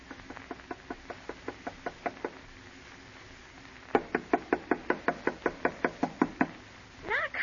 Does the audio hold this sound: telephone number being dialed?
no